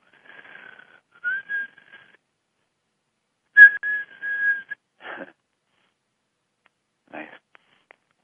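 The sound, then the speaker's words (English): A person whistles a steady, fairly high tone in a few short phrases separated by pauses, moderately soft, with a couple of faint breathy noises near the end. “Makes me want to whistle.”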